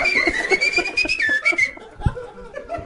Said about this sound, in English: just run around yelling shit and whistling.